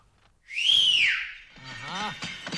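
A person gives one loud, sharp whistle that swoops up and then slides down, to hail a cab driver; a man starts talking right after it fades.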